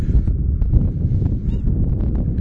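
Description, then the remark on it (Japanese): Wary swans honk in a loose, irregular series of short nasal calls as a person approaches them, over a steady low rumble of wind buffeting the microphone outdoors. “白鳥たちはですね、一応警戒心をあらわにしております。”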